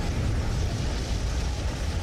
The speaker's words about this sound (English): What an explosion, huh? Yeah. The explosion was heard by every single person. I know, and everybody heard it.